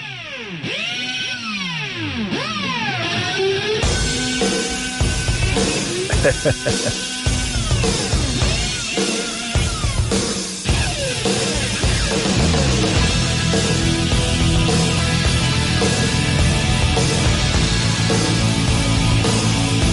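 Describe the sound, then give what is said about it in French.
An electric guitar played with a power drill opens with whirring, swooping pitch glides, then swells into a loud, dense, sustained run of rapid buzzing notes. “Et écoute la guitare qui va s'en venir après.”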